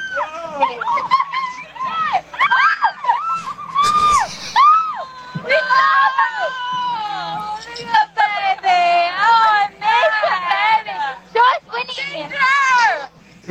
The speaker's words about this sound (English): Drunk women just all screaming. They're just screaming into the Ring doorbell. So annoying.